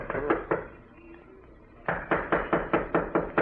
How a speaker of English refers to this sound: Well, knock on the door anyhow.